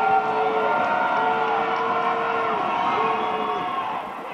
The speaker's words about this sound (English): Baldwin crowd's going to be loud. We're going to go quiet for Lewis Blakeman's free throws.